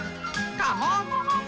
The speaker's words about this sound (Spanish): Siempre mirar y silbar a la parte más feliz de la vida.